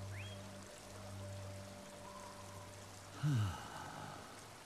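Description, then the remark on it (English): Waterfall water flows and splashes in a steady, soft rush beneath a low hum, swelling briefly into a louder gushing surge near the end before settling back to a gentle stream. “The blue waterfall flows from his chest.”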